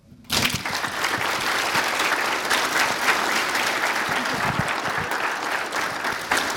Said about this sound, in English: Give him another applause.